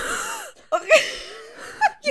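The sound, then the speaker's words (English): A person imitates being unable to catch their breath after exertion, with a long strained wheezing inhale followed by several sharp, ragged gulps of air, fairly loud. “So, you know when, like, you breathe and you can't catch a breath and you're, like, literally, listen, like...”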